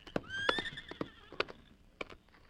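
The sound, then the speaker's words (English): A horse lets out a loud, shrill whinny lasting over a second, with sharp hoof clops and scuffing rattling around it. “There's his horse.”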